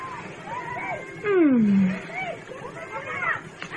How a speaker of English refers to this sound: Oh, Rubek, how can you bear to sit here and listen to those children yelling and watch them jumping around? There's a kind of a harmony in their movements, almost like music.